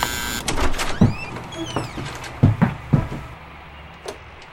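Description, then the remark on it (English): A door opens with a few thuds and clunks as the latch and frame move, accompanied by thin squeaky creaks, before things settle into quiet room tone. “After hearing all that, you know, are you going to open the door or just let me stand out here, you know?”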